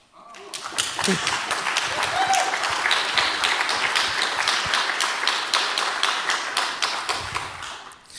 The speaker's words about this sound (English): I would like to thank the organization team. So again, a big applause to them.